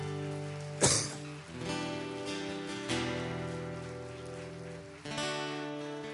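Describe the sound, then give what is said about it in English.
A crowd claps steadily in a dense, rain-like patter that runs the whole time, over sustained keyboard chords that swell and change a few times. No one speaks. “Let's give a hand clap to people.”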